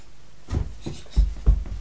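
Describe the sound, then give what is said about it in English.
Papers slide and flop down from a shelf in a few soft, papery rustles and light thuds, fairly quiet, with no talking. “No, it's just the paper, darling, on the shelf.”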